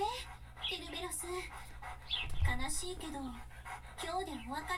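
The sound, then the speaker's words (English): A dog named Cerberus pants steadily, its breathing broken by high, wavering whimpers and whines that rise and fall throughout, with a brief low thump midway. “As we're walking on the courtyard, we hear Cerebus's barking get closer.”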